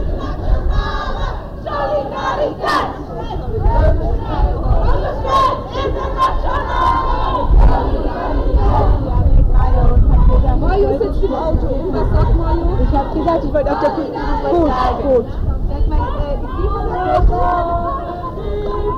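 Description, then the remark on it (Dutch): A large crowd chants protest slogans, including "hun strijd, ons strijd, internationale solidariteit", in loud, rhythmic unison, voices swelling together over a constant roar of background hubbub. “die roepen ook hun strijd, ons strijd, internationale solidariteit.”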